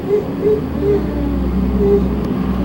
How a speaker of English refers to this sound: There's a bus there. That was a bus. We had a lot of noise.